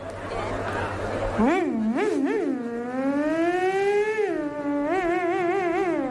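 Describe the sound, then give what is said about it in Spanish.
A voice imitates a Ferrari Formula 1 engine, with a loud, buzzing whine that revs up and down in quick bursts, then holds a long climbing note before dropping through gear-shift-like steps. “sabe imitar motores de Fórmula 1. Voy a develar un gran secreto que tengo. Y es hacer un Ferrari.”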